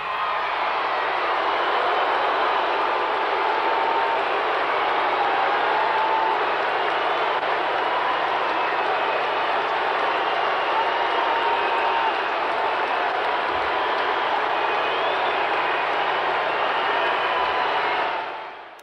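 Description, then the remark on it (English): A large concert crowd boos a singer loudly and without pause after Chris Christopherson introduces her, a dense, roaring mass of voices with occasional shouts and whistles rising above it, holding steady for the whole stretch. “That booing actually went on for 2 full minutes, and … just stood there facing it down defiantly”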